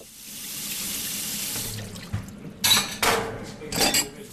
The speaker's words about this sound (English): Achilleas' wife, Rula Korobili, washes the dishes after they eat.